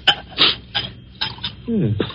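Several sharp glassy clinks, then a short gurgling pour of brandy into a glass with a shifting tone, fairly quiet with no talking.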